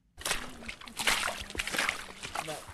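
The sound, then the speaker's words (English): Water of the main River Otter, in the town of Ottery St. Mary in western England, sloshes and splashes in a steady, irregular churn, with brief brighter splashes rising out of the flow and a low murmur of voices faintly underneath. “That's the main river otter, just there.”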